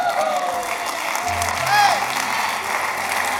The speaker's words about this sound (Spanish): Si estás aplaudiendo porque estás entendiendo.